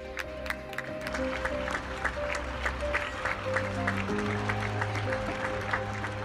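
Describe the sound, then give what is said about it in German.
Scattered applause from many people clapping on balconies for care workers in spring, echoing between buildings, steady throughout over a low background hum. “Sie ist nicht angekommen in der Lebensrealität derer, für die im Frühling geklatscht wurde.”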